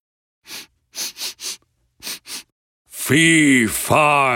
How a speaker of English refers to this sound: The giant sits down at the table. He starts sniffing the air.